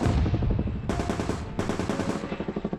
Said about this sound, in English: During a skirmish, one of Bonin's gunners was hit by enemy fire. The soldier screamed, nearly falling out of the chopper. Out of his own volition, Bonin left his gun. He went over to his comrade, avoiding the bullet storm flying around him.